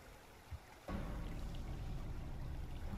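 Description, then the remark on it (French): After a brief quiet moment, a sudden surge of heavy water from two waves slaps and rushes hard against the hull of a small single-masted cog, then keeps churning loudly and steadily to the end, with no voices. “Deux nouvelles vagues viennent de frapper durement la coque du petit cog.”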